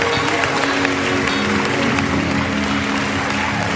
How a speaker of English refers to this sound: Give the Lord another hand clap of praise today.